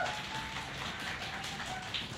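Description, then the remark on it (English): An audience at the launch of the Fight Like a Girl anthology applauds in a dense, steady wash of many overlapping claps, holding at a fairly even loudness for a couple of seconds with no voices on top. “Big round of applause”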